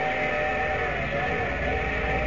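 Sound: train station whistle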